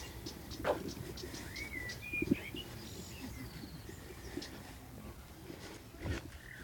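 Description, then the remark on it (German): Several birds sing and chirp outdoors, with short whistled phrases and rising notes over a steady low rumble of background noise, fairly quiet. “Sollen wir mal ganz kurz einfach nur den Vögeln zuhören?”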